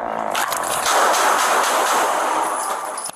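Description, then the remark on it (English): A rapid burst of loud gunshots rings out, harsh and distorted, blurring into a wash of echoing noise with no one speaking: police firing at least five shots at a man in his own home, recorded on body camera footage. “Seconds later, he was shot at least 5 times in his own home by police.”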